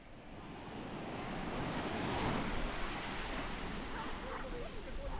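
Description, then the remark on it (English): Steady ocean surf rolls and hisses, a broad continuous wash of breaking waves with a slight swell in the middle, heard alone without any voices. “Sometimes when I'm in the ocean, I like to lay on my back with my ears submerged.”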